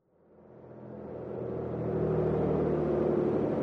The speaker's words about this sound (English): Is this our bus? Yes, it is.